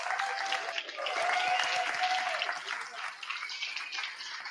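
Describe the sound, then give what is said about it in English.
Steady audience applause for a performer on stage, many hands clapping in a dense, continuous wash that holds fairly level throughout and eases slightly toward the end, with no voices standing out. “I just blacked out and I woke up and everybody was clapping, so I hope I did good.”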